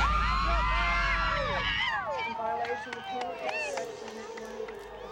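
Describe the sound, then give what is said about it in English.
A large crowd outside a California courthouse erupts in overlapping cheers and shouts at a guilty verdict, loud at first with many voices layered together, then settling into scattered whoops and calls. “And the crowd absolutely went crazy.”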